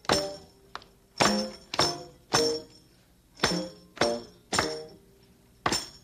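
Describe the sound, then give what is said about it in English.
Hands clap out a "walk, walk, slow" rhythm pattern, about eight or nine sharp, fairly loud claps in uneven groupings with brief pauses between, each ringing out briefly. No one talks. “Walk, we're supposed to clap. Clap, clap.”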